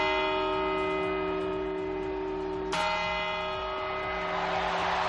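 A large clock bell rings with a long, humming tone, then a single loud chime strikes midway, followed by a swelling roar of a crowd cheering in celebration: the New Year's Eve chimes (campanadas) at the Puerta del Sol in Madrid, Spain.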